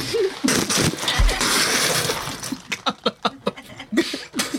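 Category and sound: nature, water splashing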